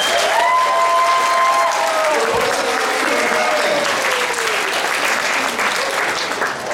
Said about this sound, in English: Big round of applause.